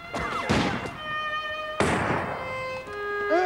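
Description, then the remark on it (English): During a battle, a soldier knocks a man out with the butt of his musket: two heavy, dull thuds, the second sharper, over a steady high-pitched tonal ringing that lingers between and after the blows. “Seething, Woodruff knocks Hatch out with the butt of his musket.”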